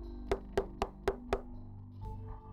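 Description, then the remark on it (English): King John knocks five times on the door of a stately home, firm and clear in a steady, even rhythm, followed by a quiet low rumble with no voices. “He reluctantly went to the door and knocked.”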